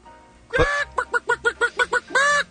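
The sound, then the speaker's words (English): A voice imitates a chicken: one loud squawk, then a quick run of about eight short, evenly spaced clucks, and a final drawn-out squawk, alone. “Chicken. You guys are making some strong choices today, the both of you.”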